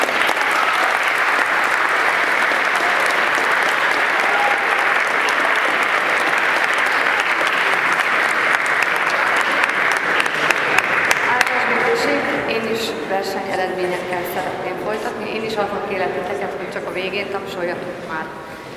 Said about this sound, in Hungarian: Köszönöm szépen, és most lehet tapsolni.